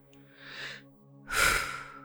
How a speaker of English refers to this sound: So we're going to take a few breaths into our low bellies, getting connected to the pelvic floor.